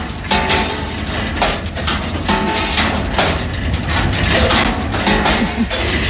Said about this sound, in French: Eh, hein, ce bon vieux bruit de casserole, eh bien, c'est évidemment celui d'une des machines de Tingly qui ont défilé hier dans les rues de Fribourg. Parmi elles, Bébé Géant, le bien nommé avec ses presque 4 mètres de haut, ah ouais.